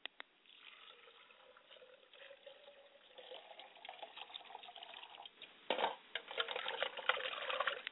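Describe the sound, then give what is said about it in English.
Tap water runs and splashes with irregular bursts of sloshing and dripping as a person washes their hands and face in a ritual before greeting ancestors, growing busier and louder toward the end. No one speaks. “Pardon me, ladies and gentlemen, while I wash my hands and face as I greet my ancestors.”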